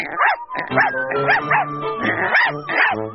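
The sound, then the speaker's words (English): A brown dog barks repeatedly, about six or seven sharp, tonal yaps in quick, fairly even succession, loud and clear with no talking. “I have a brown dog.”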